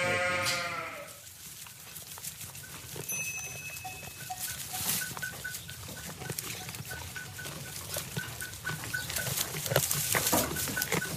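A sheep bleats loudly at the start, its wavering cry standing out, followed by a busy outdoor bed of shuffling, faint calls and tinkling bells from a flock tended by a shepherd.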